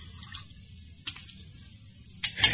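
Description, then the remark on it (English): Water splashes briefly into a glass as a drink is poured, with a small trickle midway and a louder pour near the end, over a low steady background hum. “A little more water, though.”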